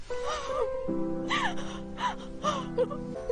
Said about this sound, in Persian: برای همینم همه مخالف نامزدیتون بودن، هر دوتون خیلی خامید. آخه کی برای سربازی رفتن نامزدش گریه میکنه؟